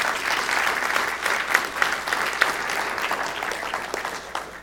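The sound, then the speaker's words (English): An audience claps steadily for several seconds, a dense, even patter of many hands with a few sharper individual claps popping out, no voices heard over it. “Give him a clap, please.”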